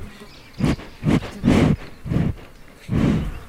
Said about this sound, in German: Eine kenianische Kuh schnuppert neugierig am Mikrofon.